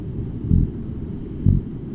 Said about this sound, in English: Biologists call it cod grunting